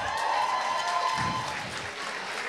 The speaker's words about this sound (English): You meant your claps just now.